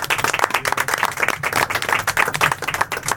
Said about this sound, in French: Je sais pas, on pourrait se applaudir un petit peu tous ensemble. Qu'est-ce que vous en pensez?